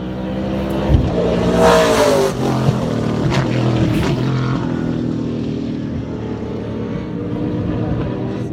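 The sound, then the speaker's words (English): A Gen 3 race car engine runs at QR, steadily and loudly throughout, its pitch climbing in a brief rev early on before settling into a sustained, buzzy drone, with no voices. “Well, actually, we can hear the engine running because it is quite a bit... It sounds quite a bit different.”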